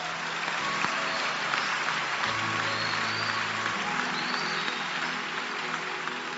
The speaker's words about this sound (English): Okay, if you want to clap, and you know you are clapping for Jesus.